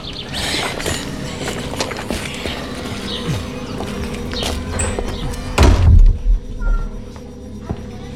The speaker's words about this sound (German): Mr. Mitchell verschwindet mit zwei Männern in einem Nebenraum und schließt die Tür hinter sich.